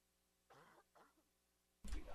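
Two short, raspy throat-clearing sounds close to the microphone, followed by a sudden loud, harsh cough that cuts off at the end.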